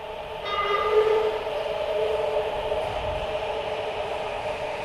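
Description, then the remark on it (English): A subway train pulls into a station with a steady, loud rumble and a sustained high metallic whine or squeal from the wheels, continuous throughout with no voices. “You get down to the train platform and appreciate the cool wind or breeze or whatever you call the rush of air the train brings before it arrives, before you even see it or its lights, because of how much it cools your sweaty head.”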